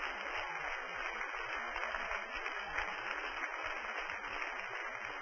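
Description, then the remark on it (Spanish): An audience applauds steadily for several seconds, a dense, even wash of many hands clapping at a constant level with no voices standing out. “Denle un aplauso, que estamos por internet, ahora que vamos para adelante.”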